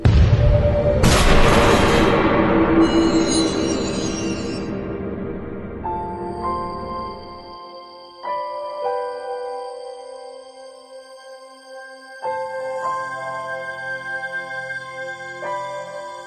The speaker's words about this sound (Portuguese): Ao longo do dia, já contaram quantas vezes olham para o vosso telemóvel? Uma grande percentagem é provocada por este som. Há que desligá-lo.